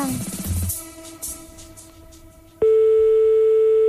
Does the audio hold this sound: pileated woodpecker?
no